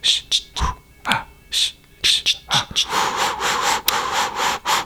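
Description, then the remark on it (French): A dog trotting: a run of short, uneven scuffling taps and breathy bursts, giving way to a steadier rustling hiss in the second half. No one speaks. “On entend le chien qui trottine.”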